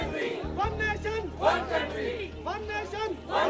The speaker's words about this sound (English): A crowd chanting in English in Lahore, Pakistan, in a demonstration of solidarity against the horror that the Taliban perpetrated upon their city yesterday.